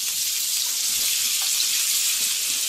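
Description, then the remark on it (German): Part of a batch of pan-fry vegetables sizzles steadily in a very small frying pan, a dense, even crackling hiss that stays fairly loud throughout, with no one speaking. “Ich hau mal das Pfannengemüse oder zumindest einen Teil vom Pfannengemüse schon mal in die Pfanne.”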